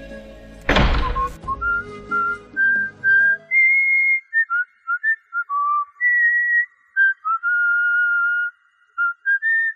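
A single heavy thump, like a door closing, is followed by someone whistling a light, meandering tune while walking out, clear, with short pauses between the notes.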